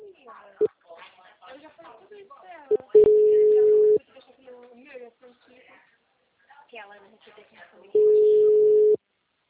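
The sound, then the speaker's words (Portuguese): A steady, mid-pitched telephone busy signal after a dropped phone call sounds twice, each about a second long and fairly loud, with several seconds between them, while people talk in the background throughout. “perdão, o telefone, a ligação caiu.”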